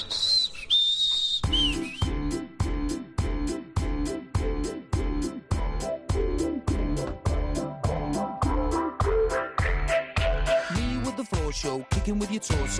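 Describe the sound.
A bright whistled melody rings out alone at first, then continues over a bouncy band accompaniment with a steady, evenly spaced beat, loud throughout.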